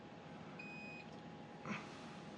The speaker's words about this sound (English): Okay, what beeped? That's damned annoying.